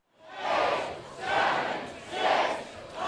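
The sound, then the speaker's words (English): A large crowd in the Tampa Convention Center ballroom on Romney's Florida primary night chants in unison, counting down to 8 p.m., when Florida's last polling places close, with loud, evenly spaced shouts about once a second, each number a broad swell of many voices. “This is not the countdown to New Year's. It's the countdown to 8 p.m.”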